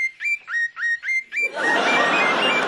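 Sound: birds singing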